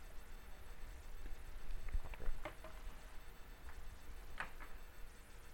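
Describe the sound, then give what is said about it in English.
A few quiet sips and swallows of water, heard as soft clicks and gulps scattered through a low background hum, with no talking. “Let me get a little drink of water here.”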